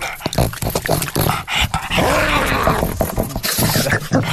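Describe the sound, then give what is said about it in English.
A continuous rumbling growl, snarling and whimpering like a dog, played as the sound of the Andromeda galaxy devouring the Milky Way. It stays loud and dense throughout, with rough bursts and a brief dip partway through. “That's actually the sound the Andromeda galaxy makes as it devours the Milky Way.”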